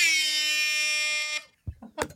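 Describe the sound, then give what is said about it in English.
A loud, steady air horn blast rings out for over a second with a harsh, buzzy tone, then cuts off and is followed by people reacting with voices. “McKenna has an air horn here. When you guys hear the air horn, we're good to go.”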